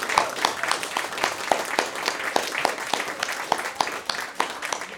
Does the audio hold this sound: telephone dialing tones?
no